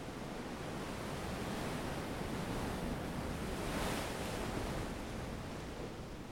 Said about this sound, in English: He dropped the belt he always carries, threw himself on the sand that was warm and fine, and listened to the sound of the surf. It was as if he had finally found someone who spoke his language. The Pacific Ocean.